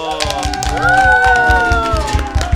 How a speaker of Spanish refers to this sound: Ya despedimos el programa con un aplauso.